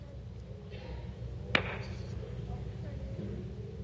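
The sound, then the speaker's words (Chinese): A single sharp hand clap, made by a preacher before an audience, cracks out over a low, steady background rumble, then quickly fades, leaving the dull hum alone again. “听见我拍手吗？能听得见吗？”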